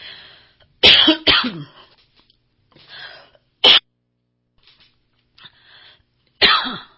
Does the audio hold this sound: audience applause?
no